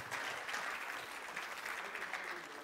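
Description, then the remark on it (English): Audience applause: a steady wash of many hands clapping, dense and even for a few seconds, with no pauses or voices standing out. “Hey, big round of applause for Josiah helping all those Greek words.”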